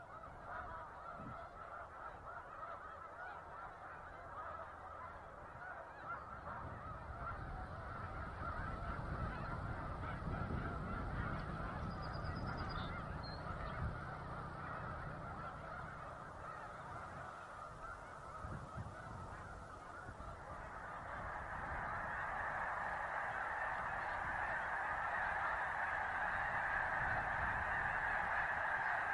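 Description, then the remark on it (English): A dense chorus of migrating snow geese honking continuously near Savannah, New York, in the Finger Lakes, a large flock calling over one another, swelling louder in the later part with a steady low rumble underneath. “We leave you this morning near Savannah, New York, in the Finger Lakes, a favorite spot for migrating snow geese.”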